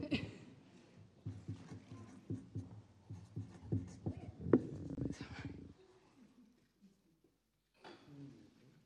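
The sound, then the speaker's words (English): A pen scratches across a piece of paper in quick, rhythmic strokes for several seconds as the words "not loved God" are written, fairly clear, then stops, leaving near silence broken by a brief rustle near the end. “So, on my piece of paper, I've written, not loved God.”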